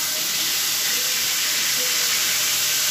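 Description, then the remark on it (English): Burgers sizzle and bubble on a burner, a steady, dense hiss of frying fat with faint crackles and pops throughout, loud and continuous with no talking. “That's just bubbling up. These are some juicy burgers, man.”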